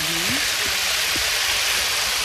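A rain stick, an instrument with little stones inside, pours out a steady rushing hiss of tumbling pebbles, like continuous rainfall. A faint low hum drifts underneath for a moment.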